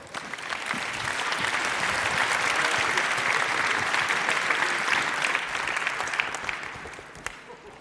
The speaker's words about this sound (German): Einen Applaus bitte.